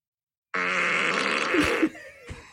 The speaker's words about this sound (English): What about a wet and nasty fart?